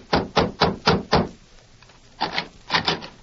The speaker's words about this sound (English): Convinced that Sheriff Flint's suspicion of Jeff as an outlaw and murderer was sound, the marshal, with Flint and Dutch, knocked on the door of the youth's home.